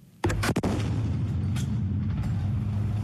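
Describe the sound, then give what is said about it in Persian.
A sudden burst of gunfire from Kurdish fighters targeting Islamic State positions in the city of Raqqa in northern Syria: three sharp shots in quick succession, then fainter scattered shots over a steady low rumble, recorded outdoors. “شما آواز شلیک جنگجویان کردی را می شنوید که مواضع گروه دولت اسلامی را در نزدیکی مرکز خود اعلام کرده آنان در شهر رقه در شمال سوریه هدف قرار می دهند.”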